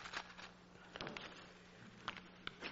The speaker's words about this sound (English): Excuse me. Take out a cough drop here.